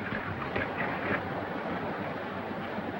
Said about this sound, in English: Lifting Ruby in his arms, John wades ashore.